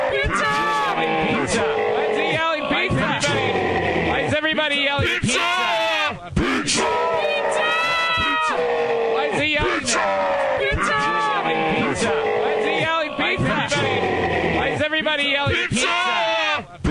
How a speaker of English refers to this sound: Why are they yelling pizza? Why is he yelling pizza? Why is everybody yelling pizza?